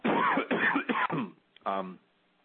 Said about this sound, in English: I'm going to cough for one moment, excuse me.